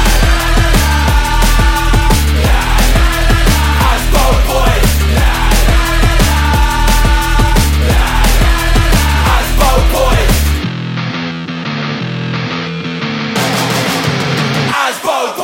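A loud, fast drum and bass track with rapid, driving breakbeats and heavy bass that drops into a sparser, bass-led breakdown about two-thirds through, with no voices.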